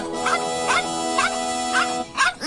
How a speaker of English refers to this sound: Who wants a dumb, growly puppy anyway?